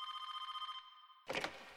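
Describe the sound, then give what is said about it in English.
A telephone rings with a rapid trilling bell, two steady tones warbling for under a second, then stops; a brief clatter follows, like the handset being picked up. “The phone rings, and it's my brother.”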